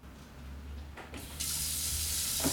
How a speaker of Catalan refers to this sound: obre i tanca l'aixeta, somrient.